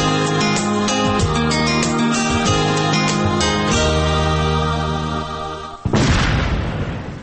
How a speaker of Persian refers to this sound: صدای را که شنیدین صدای انفجار یک ماین بود. صدای دشمن ناشناس و همیشه در کمین که از سالها به این سو سبب کشته، زخمی و یا هم معیوب شدن هزارها تن شده.